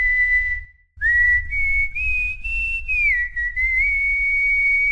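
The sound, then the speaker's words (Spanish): A person whistles a clear, sustained melody on July 27, the day of whistling, the pitch sliding smoothly between notes with a brief pause near the start, loud and alone without any talking. “Bueno, diría que me la juego. Escucha.”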